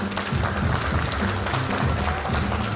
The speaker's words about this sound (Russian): Думаю, вот вышли аплодисменты.